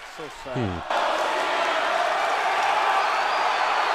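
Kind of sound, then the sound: crowd, crowd cheering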